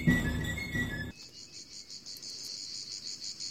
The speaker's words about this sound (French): Évidemment. Bah oui, le son des cigales.